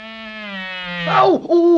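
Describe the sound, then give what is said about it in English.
A loud mosquito in flight drones steadily, then swoops and wavers in pitch, cuts out for an instant, and returns as a higher, sharper whine. No voices accompany it. “It's one of those military-minded mosquitoes, and he's making right for Crazy Quilt.”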